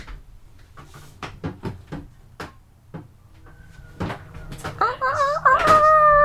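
A door is opened in Napa, California, with a quick run of sharp clicks and knocks from the latch and handle, followed by a dog's high, wavering whimpers growing louder toward the end.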